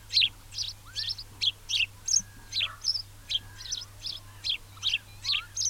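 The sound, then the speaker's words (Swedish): A house sparrow chirps steadily in a quick, repetitive series of bright, short notes, with faint other bird calls and a low background hum underneath. “Gråsparven är vid en första anblicken rätt gråbrun fågel som bara är gråbrun.”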